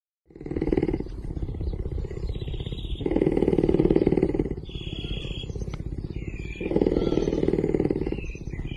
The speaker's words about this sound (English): Oh, that's purring. That's purring. That's purring. Yep, pumas are purrers. In fact, they're the biggest cat that can purr.